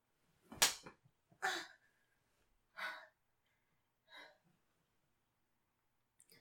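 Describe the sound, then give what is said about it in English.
Four sharp whip strikes from a Devil's Tongue, a non-traditional whip, land at uneven intervals, fairly loud, each followed by a breathy gasp or hiccup-like vocal reaction, with a faint tap near the end. “I'm not using a traditional whip. What I am using is called the Devil's Tongue.”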